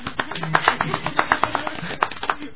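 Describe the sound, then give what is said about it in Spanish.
A short burst of applause from a few people, with quick, uneven, sharp claps overlapping for a couple of seconds at moderate loudness, with no one speaking. “El aplauso.”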